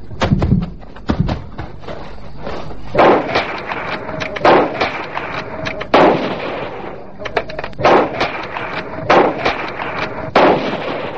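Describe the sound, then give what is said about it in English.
A volley of sharp rifle gunshots as hunters out of their car shoot three horned animals, loud cracks fired in quick irregular bursts with brief echoing tails. No talking, just repeated shots over about ten seconds. “Now, get out and shoot.”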